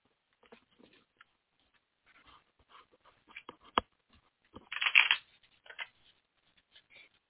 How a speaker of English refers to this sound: All right, so I've been shuffling the cards as I've been listening to you, so give me 1 second here.